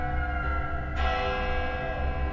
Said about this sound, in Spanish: Así fue toda su vida, pero cuando murió, su familia estuvo escuchando toda la tarde el repiquetear de las campanas a lo lejos.